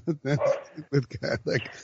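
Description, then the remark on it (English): A dog barks repeatedly in a quick, uneven series of sharp, loud yaps, with brief pauses between bursts, while work is being done in the house. “maybe this Lamar talk is causing Copper to go nuts”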